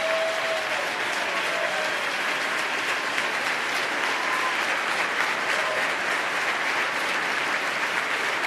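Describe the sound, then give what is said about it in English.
Sustained audience applause in New York honoring a good Samaritan who gave his shirt and hat to a homeless man in the subway, a dense, steady wash of many hands clapping at an even loudness throughout, with scattered faint whistles and no talking. “a big round of applause for being the good Samaritan he is.”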